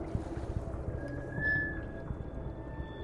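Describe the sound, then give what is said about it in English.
Water laps constantly against a boat hull, heard with an ear pressed right against the surface: a low, continuous wash of soft irregular knocks and splashes rumbling through the boat, with a faint thin tone drifting in the background. “In a fetal position, my ear is right against the surface. I hear a constant lapping.”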